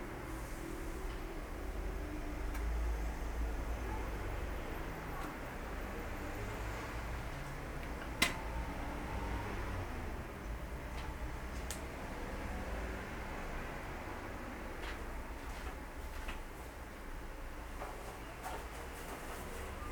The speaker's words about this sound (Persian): ببین وقتی که ما تکون میدیم دونه های بیشتری میترکن، معلومه که اینا رو مونده بودن و با این حرکتی که ما به قابلمه دادیم رفتن زیر و آماده شکفتن شدن.